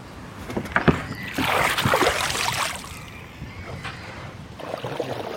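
Wooden knocks and creaks as people clamber into a small wooden boat, with feet thudding on planks and water sloshing against the hull, busy for a few seconds.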